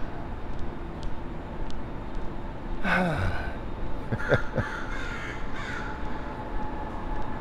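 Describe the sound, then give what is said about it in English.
Several harsh crow caws ring out in short bursts, a few seconds apart, over a steady low background hum, outdoors. “I haven't heard crows around here in a while.”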